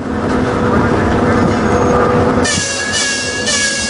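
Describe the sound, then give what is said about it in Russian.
A Russian Railways (RZD) mobile exhibition and lecture train rolls in on rails as it arrives in Udmurtia, Russia. It is loud, with a heavy steady rumble, then a shrill metallic squeal of wheels or brakes rises over it toward the end. “И вот, наконец, передвижной выставочно-лекционный комплекс РЖД приехал в Удмуртию.”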